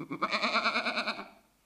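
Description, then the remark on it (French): A goat calling its kid lets out one long, quavering bleat with a rapid tremolo, loud, fading away at the end. No voices are heard. “Ensuite, la chèvre qui appelle son chevreau.”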